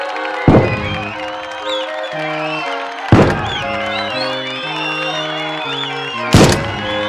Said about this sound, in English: What a festive event! 101 cannons announced the birth of Crown Prince Otto Friedrich Wilhelm Ludwig von Wittelsbach at Nymphenburg Palace, Munich's summer residence.